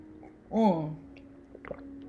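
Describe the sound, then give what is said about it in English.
Someone drinking water: a short voiced, hum-like sound, then a couple of soft, quick gulping clicks from swallowing, all fairly quiet against a low steady background. “Let me drink some water right now because I'm a little thirsty, you know?”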